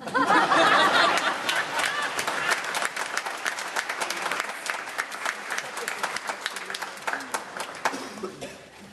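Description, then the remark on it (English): Sustained applause from a large crowd after a speech at a ceremony honoring Ohio police and fire first responders who died in the line of duty, loud and dense at first, then thinning into scattered individual claps with a few murmurs and chuckles over about nine seconds. “Now you can clap.”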